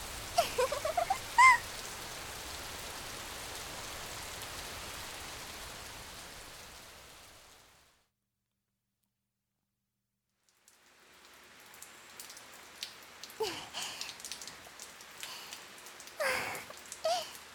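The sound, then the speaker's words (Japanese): Steady rain hisses down in a dense, even wash, fades out into a few seconds of silence, then returns with sharper drips and splashes. “なかなか止まないね。”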